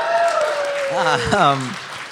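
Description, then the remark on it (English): An audience applauds in a steady, dense wash of clapping, with a voice rising and falling over the top of it before the applause starts to fade. “It's very nice of you all to applaud.”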